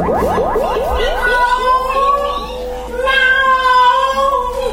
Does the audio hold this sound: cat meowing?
yes